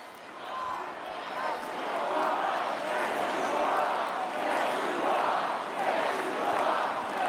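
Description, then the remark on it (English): A large arena crowd cheers and roars continuously to encourage a speaker who survived an assassination attempt, a dense wash of voices swelling in loud, rolling waves for several seconds with no single speaker standing out. “And the love coming from the crowd to encourage him, having survived.”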